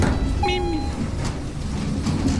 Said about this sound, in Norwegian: Jeg tok heisen ned.